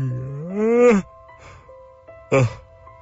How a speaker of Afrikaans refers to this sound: Hey, are you yawning? Let's have a gospel national yawn. Come on.